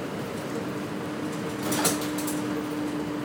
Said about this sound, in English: You can hear how noisy the lift buses are. They are definitely not quiet.